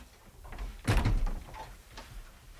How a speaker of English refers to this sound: Oh, I thought you was Eddie when I heard the door go.